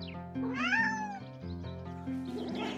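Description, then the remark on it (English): A kitten meows in a drawn-out, rising and falling cry, followed by softer, shorter mews over a steady background tone, fairly loud with no one talking. “A kitten is a very young cat, just as a child is a very young person.”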